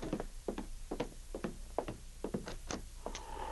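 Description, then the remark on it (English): Someone raps on a wooden cabin door, a dozen or so sharp knocks in loose, uneven clusters, clear with no voices. “He had just finished when there came a knock at the door.”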